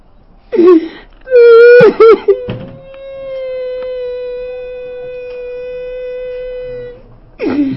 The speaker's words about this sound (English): I'm not crying from sadness, I'm crying from Gagoyim, Hashem.